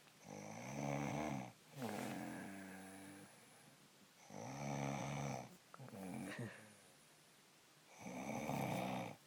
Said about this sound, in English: the woman who insists that she never, ever snores, on this very special Mother's Day, I leave you with this.